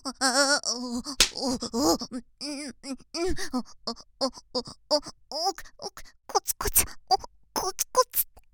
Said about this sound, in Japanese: おしり、おしりペンペン、聞く。